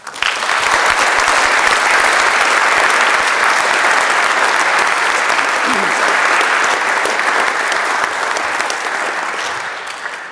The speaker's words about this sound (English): I think they all did a great job, and I would like you to thank them too by applauding to them.